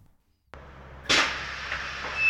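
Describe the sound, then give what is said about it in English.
A garage door opening: a sharp click, then a sudden, steady mechanical rumble and rattle that keeps rolling at full loudness, with a thin high whine near the end. No one speaks. “That sounds like the garage door is open.”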